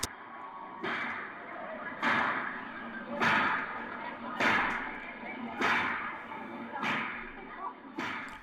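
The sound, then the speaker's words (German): A Karbatsche, a short-handled whip up to 4 metres long, cracks sharply seven times at a steady pace, roughly once a second, each snap loud over a constant murmur of background noise. “Und während sich die Fahnenkompanie mit den Spielleuten und dem Rest der Kompanie vereinigt, zeigt er sich noch einmal kurz und schnellt mit seiner Karpatsche, einer kurzstieligen, bis zu 4 Meter langen Peitsche.”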